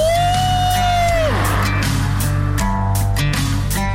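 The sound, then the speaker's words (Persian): Several friends scream and whoop loudly in a tunnel at the start of a road trip, their voices echoing over a steady low rumble like a car moving through the tunnel, with one long high yell sliding down before the others join. “چه تونلی، چه هوایی، جیغو بزن ماشاءالله.”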